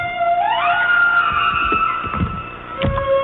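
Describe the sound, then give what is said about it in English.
A humpback whale feeding call in an Alaskan lagoon where humpbacks gather to bubble-net feed: a loud, siren-like, very high-frequency scream that sweeps upward in pitch, then holds a long, steady, harmonic-rich tone, with a few low thumping bursts beneath it. “It's totally unlike anything that you might have heard as a humpback whale song. It's a very loud scream almost, and it's extremely loud but very high frequency.”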